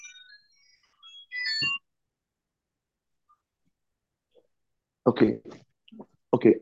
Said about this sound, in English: let me answer the phone. Yeah, of course.